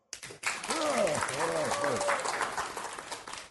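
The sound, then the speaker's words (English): An audience at a weekend learning event breaks into steady applause to show how many people learned something, lasting about three seconds, with rising and falling whoops and cheering voices over the dense clapping before it begins to thin out. “By round of applause, how many people learned something?”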